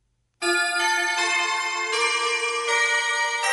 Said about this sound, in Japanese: この曲は B チャイムです。チャイムというとウェストミンスターチャイムが有名ですが、ここはミュージックファクトリーのオリジナルチャイムの方がイメージアップ効果抜群。